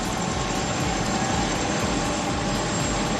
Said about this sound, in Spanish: Así sonaba el helicóptero en el que fueron trasladados los restos mortales de Franco en octubre del 19. Traslado desde el Valle de los Caídos hasta el cementerio de Domingo Rubio.